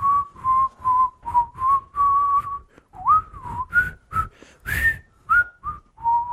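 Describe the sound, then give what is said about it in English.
A person whistles a series of short, tuneful notes, fairly loud, with quick pitch slides and brief pauses between phrases; no one speaks. “I mean, she seemed to say that they like to whistle while they work. That's how they call each other.”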